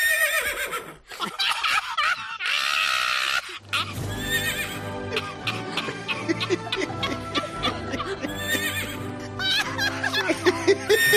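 horse neighing

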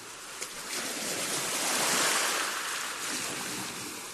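rough sea waves

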